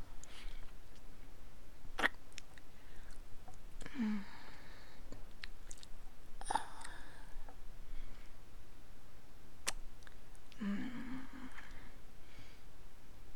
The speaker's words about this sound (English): My lips gently kissing your tip. Wrapping around your head. Suckling. And slurping.